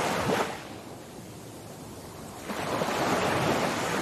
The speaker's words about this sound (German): Ein wunderbares Gefühl, hier an deinem tropischen Strand am Ozean.